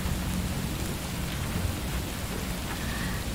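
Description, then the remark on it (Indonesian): Steady rain pours down in a continuous dense hiss, with a deep low rumble of thunder rolling underneath throughout; no voices are present. “Memandangi langit yang mendung memutih, melihat hijau dedaunan yang basah, mendengarkan suara gemericik kala airnya jatuh menyentuh bumi.”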